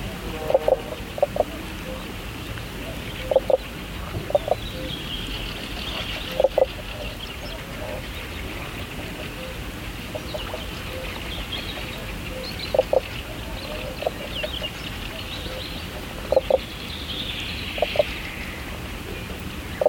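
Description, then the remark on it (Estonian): Common spadefoot toad calling underwater: short, soft bubbling knocks in pairs and small clusters, repeating every few seconds over a steady low background hiss. “Mudakonn laulab vee all, kuid seda veidi müstilist mulksumist on kuulda ka maismaale.”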